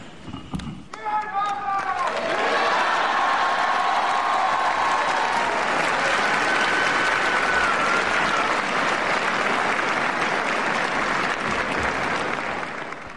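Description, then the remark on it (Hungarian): A large crowd bursts into sustained applause and cheering, thanking Pope Francis for his words and blessing at the new year, with whistles and raised voices over a dense, steady roar of clapping that continues loudly to the end. “A taps és az öröm újongás az új évben is szokás marad, úgy halljuk, hiszen a mai napon is így köszönték meg Ferenc pápának a szavait, az áldását.”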